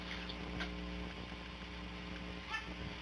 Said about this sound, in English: No, it's the washing machine.